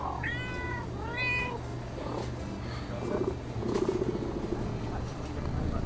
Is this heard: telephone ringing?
no